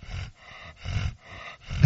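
A dog growls in low, rumbling bursts, about four throaty pulses in a steady rhythm, the last one louder, with no talking.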